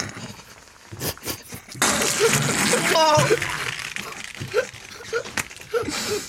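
A burst of rushing, splashing water pours steadily for a couple of seconds, loud like a small waterfall, then thins out among scattered clicks and faint background murmurs.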